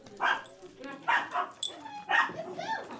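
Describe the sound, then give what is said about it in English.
Puppies under six months old at a weekly puppy socializing party bark in quick, high-pitched yips, about four sharp bursts in three seconds, fairly loud, with a short whiny squeal between them. “we're here today for our weekly puppy party for socializing any dog under the age of 6 months.”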